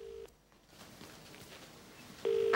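A telephone ringing tone heard through a receiver a man holds against his ear: a steady, tinny electronic burst at the start, a quiet hissy pause, then the tone returns louder near the end.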